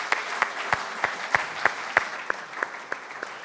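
An audience applauds steadily, a dense wash of clapping punctuated by sharper, evenly spaced claps roughly three per second, holding a constant moderate level throughout with no voices.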